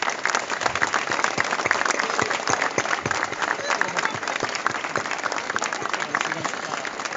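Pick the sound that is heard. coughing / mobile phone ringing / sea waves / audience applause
audience applause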